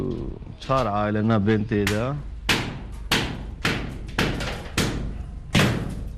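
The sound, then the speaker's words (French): Construction workers hammering in several rooms of a war-damaged house: sharp, loud blows land about every half second in a steady rhythm, echoing slightly, after a brief sung or called voice at the start. “Dans plusieurs pièces, les ouvriers sont à pied d'œuvre.”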